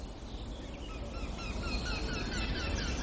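A blackbird sings a bit farther away, its short phrases repeating over steady outdoor background noise. Other faint chirps are mixed in, and no one is speaking.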